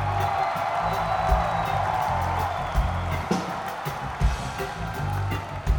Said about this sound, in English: but we can only do that if you guys applaud for him, okay?